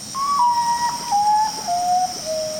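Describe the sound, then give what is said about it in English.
A common potoo calls: a mournful series of about five clear whistled notes, each stepping lower in pitch, over a steady high insect-like hum. “What does musician Nancy Rumble, who composed the theme music for Bird Note, hear in the call of the common potu?”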